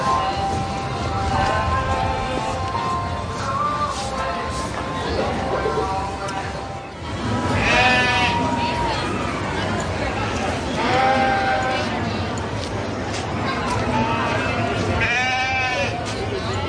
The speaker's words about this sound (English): They're doing a sheep show here. First they did the showmanship, which the children themselves on technique, and now they're actually judging the animals.